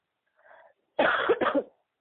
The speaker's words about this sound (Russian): Не кашляй, чё? Э? Болеешь, что ли, кашляешь? Да болею, никак не выстрелю.